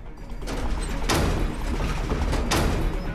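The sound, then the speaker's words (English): Two heavy bunker hatch doors slam shut one after the other as Stokes closes them, each a loud, sharp metallic bang about a second and a half apart, over a steady low rumble with no voices. “Stokes closes the hatch doors again.”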